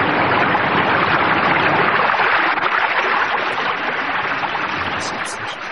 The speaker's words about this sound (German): Der kleine Zinnsoldat hatte sich gerade von seinem Schrecken erholt, da hörte er ein lautes Brausen immer näher kommen, wie von einem Wasserfall.